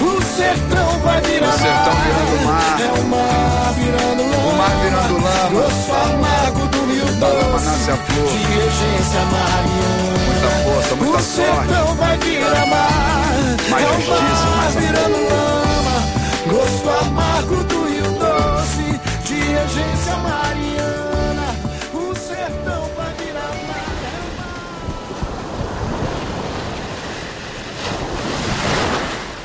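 A rap song backed by a reggae band plays loudly and steadily, with a rhythmic bass line under layered melodic parts, before the music thins out and fades near the end.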